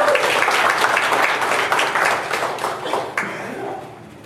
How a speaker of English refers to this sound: Woo, give the Lord another hand of applause.